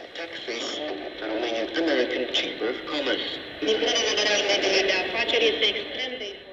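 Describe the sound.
A shortwave radio signal, filled with constant hiss and crackle, with a warbling, voice-like transmission wavering through the static at a steady, moderately loud level.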